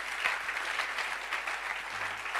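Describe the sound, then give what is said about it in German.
A crowd claps steadily in dense, continuous applause for a team, a full audience sound at a consistent loudness throughout. “Round of applause for our team as well.”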